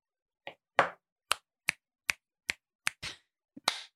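A run of about nine crisp finger snaps, sharp bright clicks in a fairly steady rhythm roughly every half second, with no talking.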